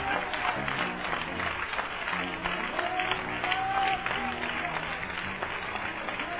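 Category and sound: crowd, audience clapping hands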